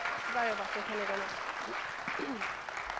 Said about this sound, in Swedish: Visst var de bra? Vi kan göra med en till applåd.